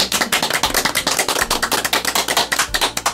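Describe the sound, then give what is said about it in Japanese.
A short burst of applause from a small group in the FM Nagaoka radio studio, welcoming three guests, many quick overlapping hand claps forming a steady, fairly loud patter with no voices over it. “拍手。”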